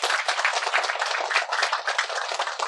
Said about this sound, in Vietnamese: Xin quý vị cho một tràng pháo tay nữa.